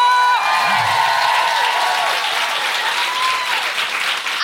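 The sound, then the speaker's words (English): Sustained, loud applause from a large audience for the guest co-host fills the whole stretch, a dense wash of clapping with faint whoops and cheers riding on top, steady from start to finish. “A huge round of applause for my co-pilot”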